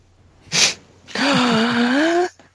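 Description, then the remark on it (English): A dramatic gasp: a quick, sharp breathy intake, then a long, drawn-out voiced cry that wavers in pitch. It is loud, with no talking around it. “Pause for gasp.”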